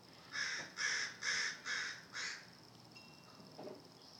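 Baby crows calling from a nest: five loud, raspy, nasal caws in a quick, even rhythm, then a few faint, softer sounds trailing off. No one speaks.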